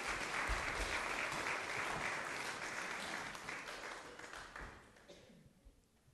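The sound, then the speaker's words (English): A crowd of people claps steadily, dense applause that holds strong for several seconds before thinning out and fading away, given for those heading off to Sunday school. “Give them a applause. Come on.”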